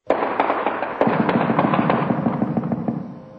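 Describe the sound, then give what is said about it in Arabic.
Explosions from American tanks shelling fighters' positions on the eastern outskirts of Fallujah, Iraq, crack out in a rapid, dense barrage of sharp bangs, loud and nearly continuous for a few seconds, fading slightly toward the end, with no voices. “تواصلت الاشتباكات في الفلوجة الأحد مع قيام دبابات أمريكية بقصف مواقع المقاتلين على الأطراف الشرقية للمدينة، حيث سمع دوي انفجارات في حين تصاعدت أعمدة الدخان.”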